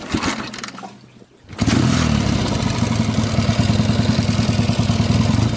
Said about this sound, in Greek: Θέλεις να μας πεις τι μηχανή ήταν. Το Νεβιλέτσι 750-140 το 79 κυκλοφόρησε το συγκεκριμένο μοντέλο. Πετρακύλιδρη.